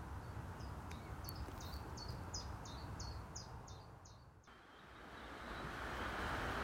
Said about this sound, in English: You may now be able to hear the rushing water of the River Aire in the background. We've walked down the track and we've made our way down towards the banks of the river. And after quite a wet weekend, it's filled up quite substantially